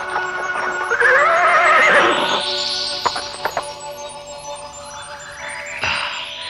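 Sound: horse neighing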